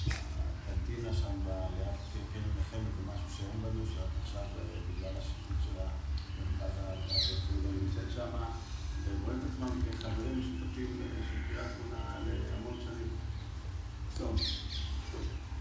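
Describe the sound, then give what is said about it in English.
Myna birds call in the background in the city of Kiryat Shmona, scattered chirps and whistles popping up now and then over a steady low rumble and murmuring voices. “Those are minor birds you're hearing in the background. They're all over the place.”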